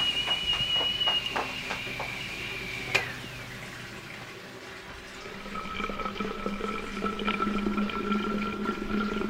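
A kettle's high whistle trails off as water boiled on a 450-watt electric stove is ready, then the boiling water is poured in a steady stream into a thermos, its hollow gurgling tone rising as the thermos fills.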